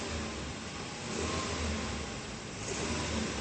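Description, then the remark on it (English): A car engine revs steadily during a diagnostic test, a dense mechanical roar with low rhythmic pulsing that swells slightly in the middle and again near the end, with no voices; the engine falls well short of its rated 168 horsepower at 6,200 RPM and its throw rods are chattering. “Your throw rods are chattering.”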